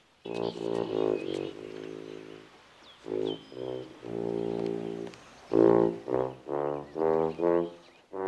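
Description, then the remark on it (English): A tuba, heard from outside a house on a palm tree-lined street, plays a loud, low melody of sustained, buzzy notes in short phrases separated by brief pauses, finishing with a run of shorter, evenly spaced notes. “Hearing the tuba, he looks around curiously for the source of the noise, then shrugs.”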